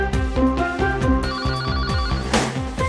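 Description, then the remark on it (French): A telephone rings repeatedly in a steady, bright electronic pattern over a short musical jingle with a pulsing low beat, loud, with no one speaking; the opening of the French radio programme Le téléphone sonne. “Le téléphone sonne.”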